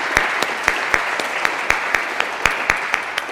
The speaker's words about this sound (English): let's have one more round of applause for … and for …